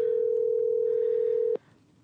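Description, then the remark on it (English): A steady, loud electronic telephone ringing tone from a phone call to the caller's mother hums continuously for about a second and a half, then cuts off abruptly with a click, leaving faint background noise. “She's ignoring my phone calls.”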